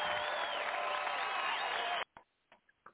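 applause

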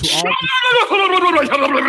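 sheep bleating

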